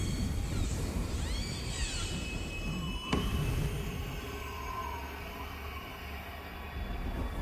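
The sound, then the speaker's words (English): A tree creaks in the wind as it rubs against another tree that has fallen into it, heard while hunting, giving high, wavering, cat-like squeals that bend up and down in pitch over a steady rush of wind, with one sharp knock midway. “Is that a tree? A squeaky tree maybe blowing in the wind.”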